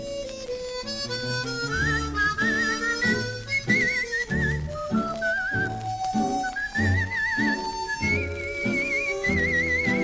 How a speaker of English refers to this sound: I like the people I meet every day, as I go quietly whistling on my way.